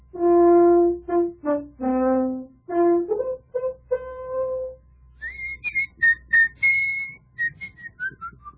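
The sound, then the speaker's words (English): A short tune from Dvořák's New World Symphony whistled through the teeth, clear, starting with lower reedy notes before rising into high, piercing whistled tones that drift downward at the end. “it was whistled between his teeth.”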